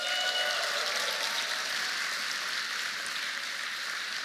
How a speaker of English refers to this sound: And I want to particularly welcome all of you that are going to be baptized this evening. Let's give them a huge cheer.